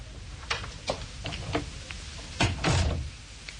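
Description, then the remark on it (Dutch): A few light clicks and taps lead up to a door being pulled shut with a louder thud and brief rattle; otherwise quiet, no voices. “En niet zeggen totdat de deur weer dicht is.”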